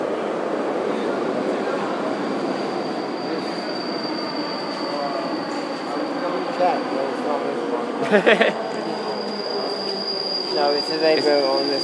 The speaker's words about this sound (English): Is this our train coming or is this? That's going in behind.